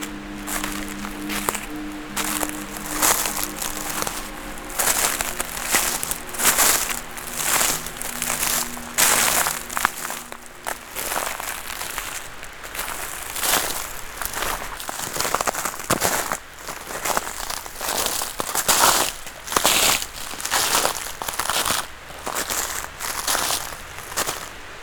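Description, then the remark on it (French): Footsteps crunch steadily over frozen mountain ground through patches of snow mixed with dry dead leaves, each step a crisp crackling crush in an even walking rhythm with no voices. “Quelques plaques de neige mélangées aux feuilles mortes.”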